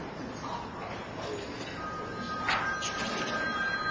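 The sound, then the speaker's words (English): A cell phone rings faintly during a noisy meeting, its steady electronic tone starting partway through and holding to the end amid background murmur and shuffling. “Could we turn off our cell phones, please?”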